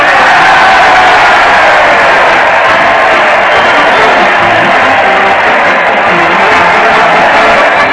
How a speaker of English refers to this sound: Listen to that crowd. They're cheering Fred Allen as he leads his weekly parade to the old Town Hall.